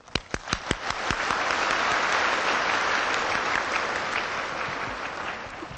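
Warm applause from an audience in Tainan welcoming monastics to report on their practice with their master, opening with a few distinct sharp claps that quickly swell into a steady, dense wash of clapping sustained at an even level throughout.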